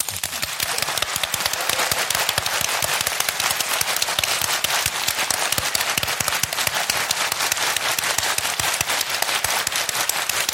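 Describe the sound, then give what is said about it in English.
An audience at an Archers fan weekend applauds its guests steadily, with a dense, crackling wash of many hands clapping at once. The clapping stays loud and even throughout, and no one speaks. “So let's give a round of applause to our guests”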